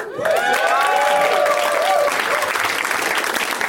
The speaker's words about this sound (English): That applause would build up to a much bigger crescendo if he actually walked out right then.